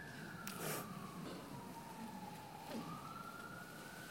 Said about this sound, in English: Don't you like the way the siren is saying, "Yeah, that's right, see Paris first"?